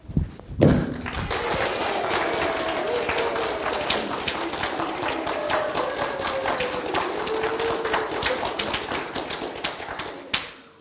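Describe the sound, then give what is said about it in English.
A church audience claps together at once in a dense, uneven patter of many hands, loud and sustained for about ten seconds before stopping, with no one speaking over it. “What starts is us all clapping at our own speed and rate.”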